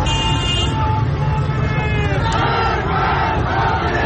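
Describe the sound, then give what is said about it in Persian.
A large crowd of protesters in Mahabad chants slogans against the leader of the Islamic Republic in unison. It is a dense roar of many voices shouting together, with a few car horns tooting through the steady, loud din. “و در مهاباد شعارهای علیه رهبر جمهوری اسلامی سر می‌دادند.”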